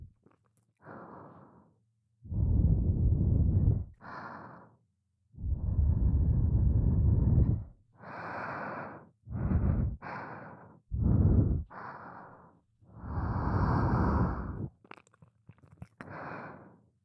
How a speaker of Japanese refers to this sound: 舐められてもっと敏感になってるから、私の吐息がかかるだけでも気持ちいいね。